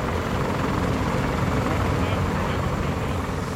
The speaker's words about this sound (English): In these exercises, there's a huge amount of activity. You've got Marines taking off in helicopters, clattering away into the jungle. Some of them are carrying ultralight vehicles that will act as their mobile command post.